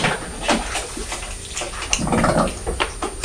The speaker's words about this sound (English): Talking of brushes, what's Mummy doing now? She's using a brush to clean the bottle, isn't she?